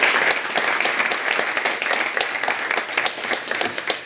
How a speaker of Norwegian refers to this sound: Da ønsker jeg velkommen forsvarssjef og general Eirik Kristoffersen. Jeg klapper for han også, ja.